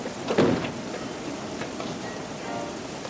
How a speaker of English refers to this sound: It was a cold and rainy night.